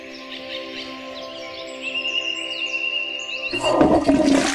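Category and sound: bird, nightingale singing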